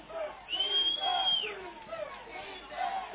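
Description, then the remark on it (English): A stadium crowd at an American football game roars in a steady, broad wash of noise, urging on the Vikings' defense on third down, with a shrill sustained whistle rising above it for about a second early on and voices mixed into the din. “You hear the crowd imploring our defense.”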